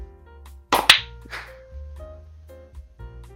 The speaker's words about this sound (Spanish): Me voy, Aplaudimos. Una, dos.